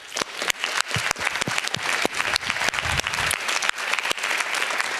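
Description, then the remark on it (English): An audience at a conference talk claps steadily, dense overlapping hand claps forming a continuous wash of applause that stays fairly loud and even throughout, with no voices standing out. “I hope that everyone can give MC and Transparency Toolkit a lot of material support, and maybe a round of applause”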